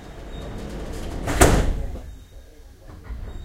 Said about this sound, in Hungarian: Kérjük, fejezzék be a beszállást. Szíveskedjenek vigyázni, az ajtók zárulnak.